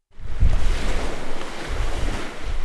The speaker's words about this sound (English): Waves crash on the port of Zanzibar that once welcomed cardamom and cumin seeds from Asia on the ancient spice road.